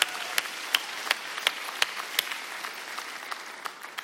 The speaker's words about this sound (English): How many are thankful for the gift of salvation? Come on. Come on, let's put our hands together and cheer.